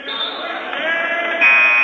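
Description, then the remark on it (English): A referee's whistle at a basketball game blows one long, shrill, steady blast lasting nearly two seconds, over a murmuring crowd, with the tone sharpening slightly toward the end, calling an offensive foul on Kakana. “Whistle here. It'll be an offensive foul on Kakana.”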